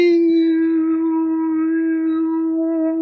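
A single steady drone of overtone singing held for several seconds, with a bright whistling overtone above it that shifts in pitch toward the end. The voice is fairly loud, with no talking.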